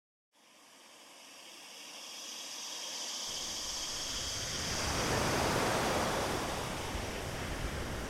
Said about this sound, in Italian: Il mare oggi è calmo. Non c'è vento.